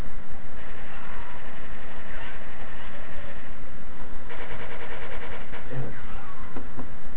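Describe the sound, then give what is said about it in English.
A video game helicopter engine drones loudly and steadily throughout, a low mechanical hum with a fast, rattling rhythmic chop and a slightly muffled, buzzy tone. “Hey, the helicopter's back.”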